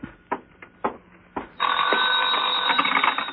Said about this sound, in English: Answer the phone.